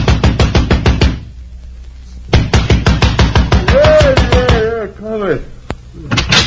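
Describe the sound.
A fist pounds hard and fast on the door of a cab driver who worked nights, in loud, rapid bursts, pausing and then resuming, with a voice briefly calling out over the banging.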